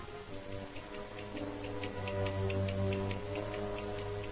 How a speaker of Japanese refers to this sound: 窓際の白い小机の上では、時計が果てしなく秒を刻んでいた。